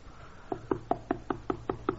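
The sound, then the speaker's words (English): The man next door raps on a door eight times in quick, evenly spaced succession, each knock sharp and solid against a quiet background with no voices. “On my door. Who's there?”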